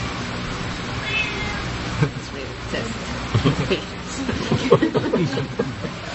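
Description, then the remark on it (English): A male Sphynx cat meows repeatedly outside a house in short, insistent cries to get attention, moderately loud, with a muffled murmur of voices and background noise around it. “They had a Sphinx cat outside there.”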